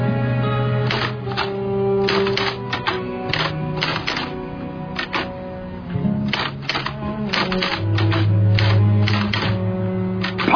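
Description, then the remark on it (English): Crisp typewriter keys clack in a steady rhythmic patter, with brief pauses between bursts, over a low sustained hum of background music. “Sometimes a simple rhythm of typing gets us from page one to page two.”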